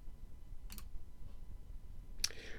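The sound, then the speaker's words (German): A computer mouse right-clicks twice close together on a spreadsheet tab, then clicks once more about a second and a half later. The clicks are crisp against a low, steady background hum, with no one speaking. “Zweite Möglichkeit, führen Sie einen Rechtsklick auf den Tabellenreiter und wählen Sie Tabelle einfügen.”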